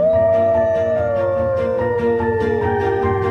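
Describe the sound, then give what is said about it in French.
Wolves howl in a sustained, falling chorus, one clear drawn-out howl gliding downward over lower overlapping voices, steady with no talking. “Oh, des loups. Jésus-Marie-Joseph, des loups.”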